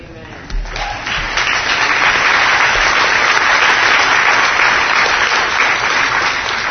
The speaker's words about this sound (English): Look, we're clapping and woo-hoo, you know, I know we love the Lord.